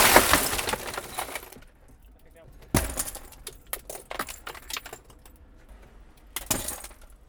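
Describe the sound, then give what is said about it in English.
Glass shatters with a loud initial crash, followed by scattered tinkling shards and a second sharp smash a few seconds later, picked up by a small recorder left inside a car, with no voices. “No glass on you so far.”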